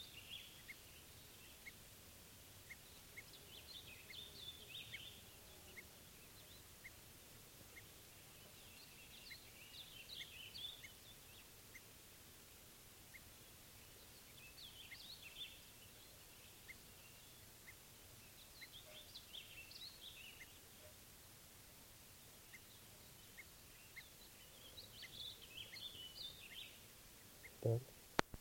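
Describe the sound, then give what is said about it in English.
Faint bird calls come in short chirping bursts every few seconds over a quiet outdoor background, with a brief sharp knock near the end and no talking; a test recording of a bird numbered 421. “Doing test recordings of bird 421.”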